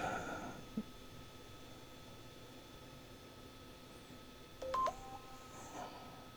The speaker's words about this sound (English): What the fuck is that, man? Text tones.